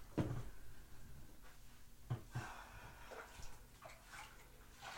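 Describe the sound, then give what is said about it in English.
Water sloshes and splashes in a bathtub as someone is helped into it, with a few sharp knocks and irregular bursts of movement through the water over steady low rumble. “Now, help me into the bathtub.”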